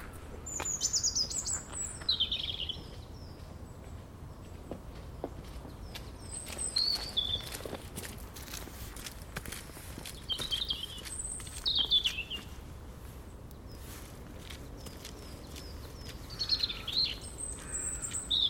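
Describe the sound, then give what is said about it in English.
A single small bird chirps from a tree right in front of the listener in short, high bursts spaced a few seconds apart, fairly close but not loud, over a soft outdoor background with faint rustling. “Just one little bird in the tree right in front of me.”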